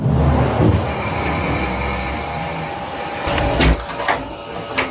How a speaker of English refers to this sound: You're going to hear the closet door open, and then they're talking about a glass breaking, and you can see the glass, which I'll describe to you when the clip ends.